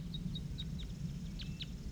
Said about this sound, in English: I also hear more wild birds down the hollow.